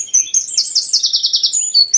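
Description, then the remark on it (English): A bird calls in a quick run of high, bright chirps, about a dozen notes rattling off in a steady rhythm, with a few thinner tweets at the start and end, among houses by a harbour. No one speaks. “The harbor is very near and we often hear some herringals that perch on the chimneys. Some jackdaws fly over the houses. They are noisy also.”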